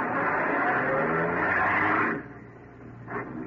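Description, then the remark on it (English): A car engine is started and roars loudly as the car accelerates along an empty road late at night, setting off after another car; its rising drone cuts off abruptly after about two seconds, followed by a quieter engine hum. “I started after him.”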